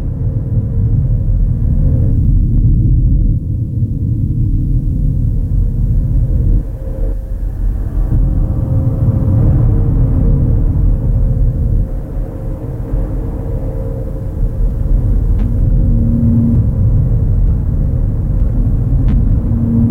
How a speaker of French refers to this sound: Il y eut un coup de tonnerre.